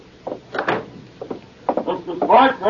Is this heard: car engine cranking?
no